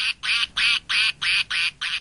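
A stuffed yellow toy duck called Quackers quacks seven times in quick, evenly spaced bursts, each bright, nasal and identical, fairly loud with no voices around it.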